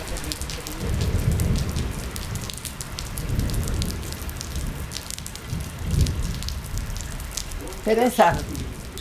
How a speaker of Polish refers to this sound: Jest burza, idzie szybciej.